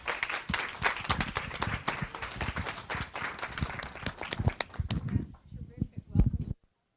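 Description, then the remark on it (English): An audience at a live cooking event applauds to welcome Bruce and Julia, with a burst of dense, crackling clapping that thins out toward the end before stopping abruptly. “So given that introduction, let's give a warm applause to Bruce and Julia.”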